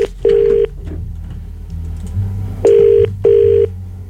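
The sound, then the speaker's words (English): An outgoing phone call to a radio station rings on the line: a steady electronic ringback tone in short bursts, one burst and then a quick double burst after a pause, clear and fairly loud, with no voices. “Good thing about radio stations is they're always answering their phones.”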